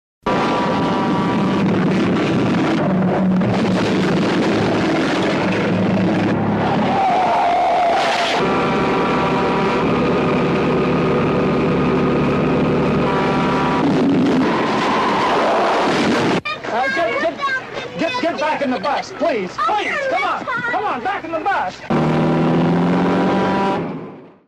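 A semi-truck in a film chase scene roars close behind a speeding car, trying to run it down, loud engine drones and rushing road noise swelling continuously, with sustained horn-like tones blaring midway and tense, churning sound near the end.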